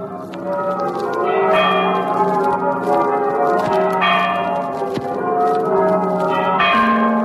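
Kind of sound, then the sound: signal or alarm, city church bells ringing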